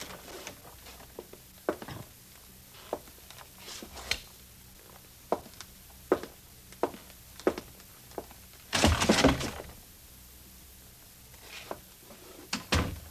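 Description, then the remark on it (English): An apartment door (Apartment C), found unlocked, is opened amid scattered light clicks and knocks, with a louder rattling, creaking burst as it swings, then a few more taps; nobody speaks. “I remember locking the door.”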